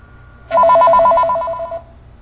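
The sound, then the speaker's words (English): A telephone rings once as a caller calls back after the line was cut off, a loud electronic warbling trill lasting just over a second, with a quiet low hum underneath and no voices. “it looks like we're cut off again. Let's hold on until they call back.”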